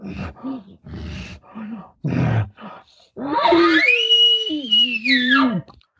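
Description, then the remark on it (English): A voice imitates a bull elk's frustrated warning to another bull to stay back: a string of short, rough, breathy grunts, then a long, strained, squealing call that holds a high tone before dropping away. “But on a bull, you're going to hear him kind of going. He's trying to keep him away.”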